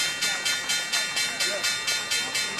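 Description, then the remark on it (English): The opening bell at the New York Stock Exchange rings continuously, a loud electric bell whose harsh metallic clang pulses in a fast, steady rhythm of about four strokes per second, with no voices. “That's the opening bell at the New York Stock Exchange.”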